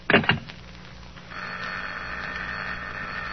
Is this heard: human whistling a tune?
no